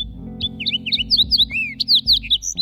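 A fox sparrow sings a rich, varied phrase of sweet whistles and slurred notes, rising and falling in quick succession, clear over a low steady rumble.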